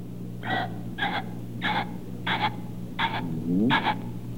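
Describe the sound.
A voice imitates a ringneck pheasant with six harsh, raspy calls at a steady, even pace, fairly loud, over a low background hum.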